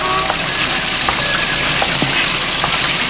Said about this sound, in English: It was raining that afternoon. The old buildings of Lower Manhattan were crying. Their tears spattered in drops off the awnings, rushed out in streams from the drain pipes and gutters of the old brownstone houses.